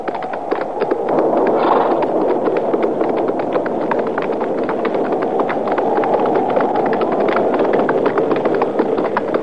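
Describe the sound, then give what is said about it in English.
Hooves of horses being ridden clip-clop steadily along over a loud, continuous rush of wind, the rapid clattering hoofbeats mixing into a rough, gusty background with no voices. “Well, there ain't even no shed there for the horses. Now, let's ride around to that side, out of the wind.”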